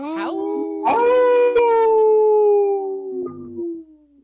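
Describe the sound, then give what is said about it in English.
A single long wolf howl swoops upward, holds a loud, steady tone, then slowly slides lower before trailing off at the end. No voices, just the howl. “I think I hear a howl from a Timberwolf fan.”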